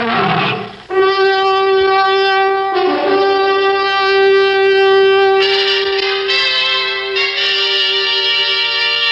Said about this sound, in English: You hear that, little girl? That's the lion. The very lion who'll decide whether Marcus Rufus is guilty or innocent.